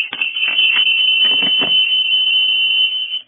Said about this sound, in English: Is everything okay? I think somebody must have done something with their phone or received a call.